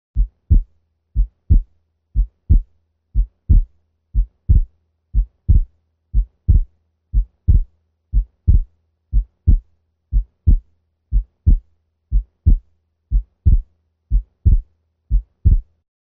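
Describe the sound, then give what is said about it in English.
Dog heart sounds with a persistently split second sound: low, dull lub-dub thumps repeating evenly at a slow, steady sixty beats per minute, with no voices. “Heartworm disease and subsequent pulmonary hypertension is probably the most common cause of persistent splitting of S2 in dogs.”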